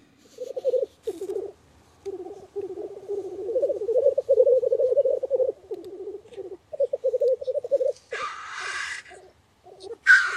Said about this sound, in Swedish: Orrspel, något som man brukar höra tidigt på våren, men en lyssnare hörde av sig till oss tidigare här veckan och berättade att han hade hört orrspel i nordvästra Hälsingland förra lördagen.